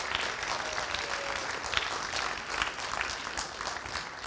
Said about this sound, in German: Noch einmal Applaus.